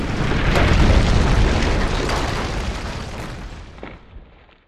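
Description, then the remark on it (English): A deep, booming cannon blast swells into a heavy, sustained roar of a massive avalanche of rushing snow in the mountains, then slowly rumbles and fades away over several seconds. “The cannon caused a massive avalanche of snow to fall on the Huns.”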